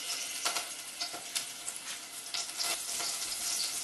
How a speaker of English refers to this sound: And I'm going to put this in my frying pan and begin to fry the meat. So I'm just going to add my lamb to some hot oil.